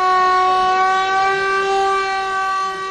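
A civil defense general alarm siren sounds in Mostar, Bosnia and Herzegovina, on the anniversary of the destruction of the Old Bridge, a loud, steady wailing tone with a rich, buzzing timbre that holds its pitch throughout, with no voices.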